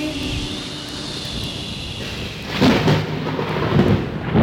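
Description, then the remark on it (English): A loud hurricane at sea roars with steady rain and gusting wind, then heavy thunder rumbles in and swells after a couple of seconds, continuing to the end with no voices. “The ship sailed straight into a nasty hurricane. Soon there was nothing left but the wind and the rain.”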